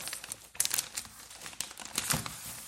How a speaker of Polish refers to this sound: On jest zapakowany w taką kurierską folię, którą musimy przeciąć. No. Zbieramy płachty folii. Z tego tutaj trochę.